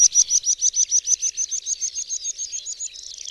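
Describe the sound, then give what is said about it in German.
Early on a Friday morning, a meadow pipit sings a rapid series of high, thin, hammering notes, about twenty in quick succession, that speed up and blur into a trill as they fade slightly toward the end. “Am Freitagmorgen weckt uns früh ein Wiesenpieper mit seinem hämmernden, zu einem Triller anschwellenden, Gesang.”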